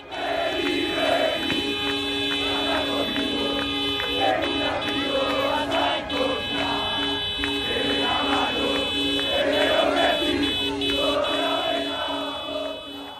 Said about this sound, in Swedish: Det är alltså fansen till Newell's Old Boys som var ute och viftade med flaggor och tutade med bilar, och så sjöng de olé, olé, olá, olá.